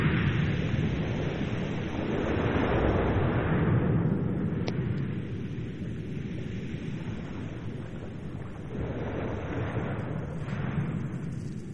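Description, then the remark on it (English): Hydrophone (underwater microphone) recording of a strong tide moving pebbles around on the seashore: a dense, continuous rumbling roar laced with gritty clicks and crackles, steady and loud with gentle swells, and no voices. “The recording is made with a hydrophone, an underwater microphone, which picks up the sound of the strong tide as it moves the pebbles around on the seashore.”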